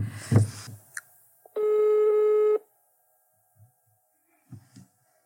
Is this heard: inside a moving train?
no